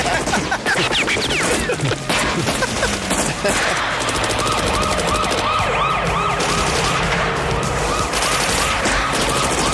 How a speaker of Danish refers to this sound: Så vil vi slet ikke høre flere skud. Nej, der er gang i den i hvert fald, det må man sige.